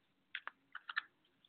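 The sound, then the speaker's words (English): A deck of cards being shuffled for a card reading: a quick series of five or six crisp papery snaps and flicks over a quiet background, with no one talking. “So tell me when to stop shuffling.”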